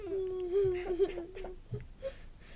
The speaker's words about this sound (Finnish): Mitä tuo on? Mistä tuo itku tulee? Katso tänne. Minun viittani liepeitten alle. Kaksi nälkiintynyttä rääsyihin voettua palelevaa lasta. Ovatko ne sinun? Nämä ovat ihmislapsia.